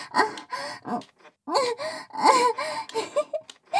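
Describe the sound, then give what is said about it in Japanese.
A person sobs in a series of short, shaky gasping bursts and wavering whimpers, with brief pauses between breaths and no clear speech. “何泣いてるんですか？泣きたいのはこっちですよ。”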